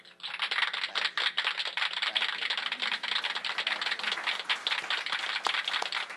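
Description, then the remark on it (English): Rapid, continuous hand clapping with dense, sharp slaps running steadily for several seconds, fairly loud, with no voices. “Why did you clap like that? It's weird.”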